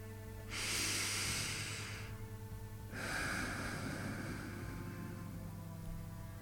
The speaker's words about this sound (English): Now I'm thinking to myself, yep, someone or something is breathing from the corner of my room.